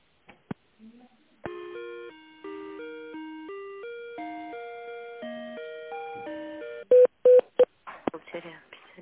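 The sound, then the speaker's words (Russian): A phone line during a call transfer to the accounting department, extension 112: a few clicks, then a long run of steady electronic tones stepping between pitches every half second or so, followed by sharp loud beeps and crackly clicks. “Бухгалтерия 112, добавочный номер. Я переключу, если не получится, наберите еще раз.”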